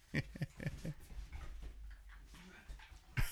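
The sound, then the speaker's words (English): A labradoodle dog named Bo whimpers in a quick series of short, high, whiny yelps, then goes quiet before one last louder whine at the end, mostly on its own. “after some technical difficulties because of an idiot labradoodle”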